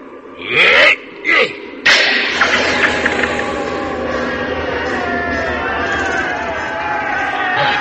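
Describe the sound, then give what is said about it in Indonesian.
A large crowd of villagers carrying assorted weapons such as machetes, hoes and crowbars cheers and shouts loudly, starting with a few sharp bursts of yelling before swelling into a sustained, dense roar of many voices that continues to the end. “Orang banyak bersorak-sorak.”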